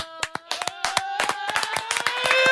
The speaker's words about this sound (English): You were clapping me in off a long run, weren't you?